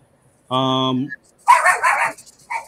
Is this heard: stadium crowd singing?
no